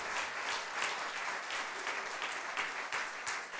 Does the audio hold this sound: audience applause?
yes